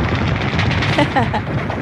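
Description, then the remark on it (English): Dense, rapid machine gun fire rattles on without a break for the whole moment, loud, with a brief faint voice showing through partway. The machine guns are sound effects someone puts in, along with explosions. “That's more machine guns. That's his sound effects he's putting in there.”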